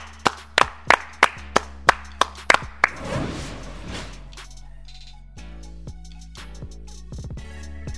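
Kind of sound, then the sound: crowd, people clapping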